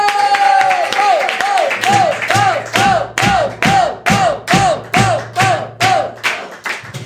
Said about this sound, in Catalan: Doncs va, rebem un fort aplaudiment a Pau Ballbé!